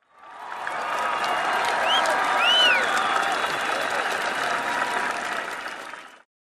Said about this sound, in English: Our act meets with cheers and whistles of approval from the students.